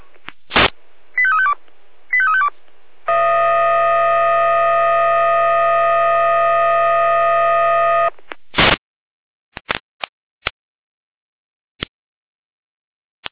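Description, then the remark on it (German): Fire brigade radio alerting tones from Jena, calling out the Kleinpürschütz and Großpürschütz fire brigades to a cellar full of water: a sharp beep, two quick warbling tone bursts, then a loud steady chord of tones held about five seconds, followed by another beep and scattered faint clicks. “Jena mit Alarmierung.”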